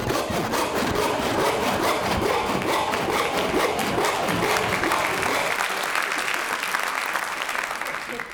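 An audience claps in a dense, steady wash of applause lasting the whole stretch, loud and even, with the fuller, lower part of the clapping thinning out toward the end.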